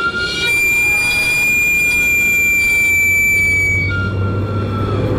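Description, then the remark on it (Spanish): A Mexican street sweet potato vendor's (camotero's) steam cart whistle shrieks in one long, steady, piercing tone, rich in overtones. It shifts slightly in pitch near the end over a low rumbling hiss. “¿Quién no ha salido corriendo con una moneda en la mano al escuchar el chiflido del camotero?”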